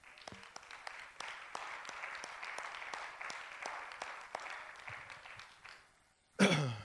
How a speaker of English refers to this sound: In Jesus' name. Let's give out a hand clap.